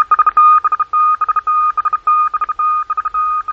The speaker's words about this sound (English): Just 3 years ago this month, the signal you are hearing now, which means testing in Morse code, heralded a new type of experimental radio program